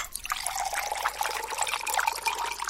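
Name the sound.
water being poured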